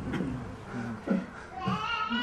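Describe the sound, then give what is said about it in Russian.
A baby babbles in a few short, wavering vocal bursts with rising pitch, fairly clear against a faint room hum, sounding content rather than upset. “И у нас есть ребенок.”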